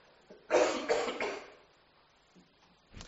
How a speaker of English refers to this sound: Excuse me a moment, I must clear my throat.